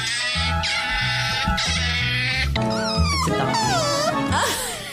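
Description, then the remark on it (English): A series of loud, strained otter calls, harsh and harmonic like braying, with some squealing tones that sweep up and down in pitch. They run almost without pause, and no one speaks. “It does sound like a donkey. In fact, they all sound like donkeys. But it wasn't.”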